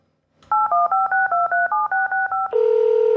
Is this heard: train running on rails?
no